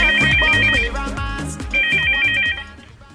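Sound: telephone ringtone ringing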